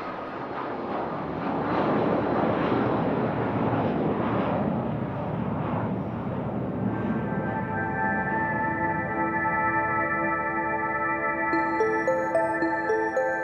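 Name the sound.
airplane engine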